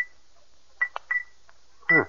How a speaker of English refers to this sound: Oh, we can test it easily enough. Suppose I tap it with this silver pencil. That ought to make it ring.